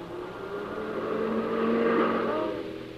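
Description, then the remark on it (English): A car drives past, its engine hum swelling to a peak near the middle before easing off again, heard clearly with no one talking. “there's the car.”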